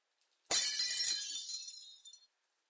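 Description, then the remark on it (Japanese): A ceramic plate smashes with a sudden loud crash, followed by bright, ringing shards scattering and tinkling for over a second before stopping abruptly. No one speaks. “これでお皿割ったの5枚目ですよ。”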